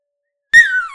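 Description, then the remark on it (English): A high-pitched animal howl begins abruptly after silence, a clear, tonal wail that slowly slides downward in pitch and fades slightly in the final half second. “She'll do a real good howl.”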